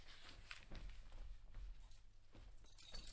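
Keys jangle softly as they are handed over, a few light metallic clinks with a brighter rattle near the end. Nobody speaks.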